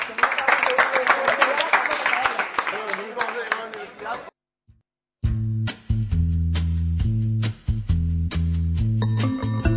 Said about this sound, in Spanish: Y nada más, muchas gracias, ¿eh? Un aplauso.